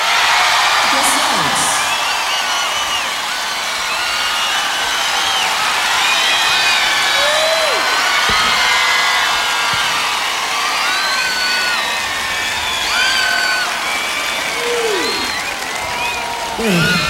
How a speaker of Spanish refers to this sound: Por favor, con un gran aplauso recibamos en este escenario a Pablo Herrera.